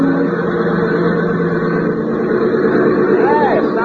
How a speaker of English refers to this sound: she'd be circling that little airport about a mile from the hotel and sounding as though she was in trouble